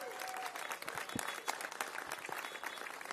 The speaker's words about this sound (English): Thank you, Mayor Lurie. Let's give Mayor Lurie a big round of applause.